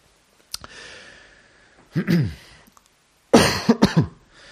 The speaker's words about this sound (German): Mir wurde ja gesagt, in die Armbeuge. Also ihr müsst verzeihen, wenn ich manchmal aus Gewohnheit immer noch in meine Hände huste.